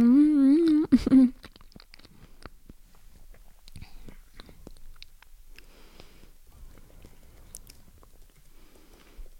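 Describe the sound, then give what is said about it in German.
Quiet wet chewing of a banana, with lip smacks and small mouth clicks scattered irregularly, following a brief loud hummed or sung note at the very start. “Ihr seid gerade verwirrt, aber denkt mal, ich esse meine Banane, weil das mache ich eh nebenbei gerade. Ihr könntet mich schmatzen hören, vielleicht klappt das ja.”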